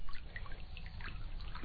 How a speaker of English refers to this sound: and the gurgle bubble of the water in the creek.